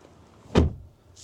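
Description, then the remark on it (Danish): A BMW car door shuts once with a light, somewhat hollow clunk that fades quickly into quiet background hiss. “En anden ulempe, der er med den her BMW, det er altså, når man lukker dørene. Det lyder altså ikke lige så godt, som det plejer.”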